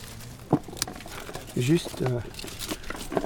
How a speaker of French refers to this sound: J'écarte les feuilles et je coupe les grappes.